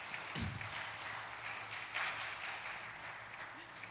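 An audience applauds the people who tried to explain the supernatural through their experiences, a dense, steady patter of many hands clapping for about four seconds, holding at a fairly even moderate level, with a faint voice briefly audible beneath it.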